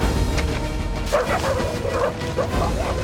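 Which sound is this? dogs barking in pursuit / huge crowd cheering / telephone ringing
dogs barking in pursuit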